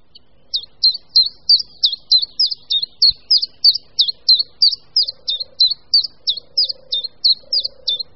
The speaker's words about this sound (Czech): Jednotvárný hlas, který slyšíme z korun stromu, patří zcela nenápadnému malému zelenému ptáku, budničku menšímu.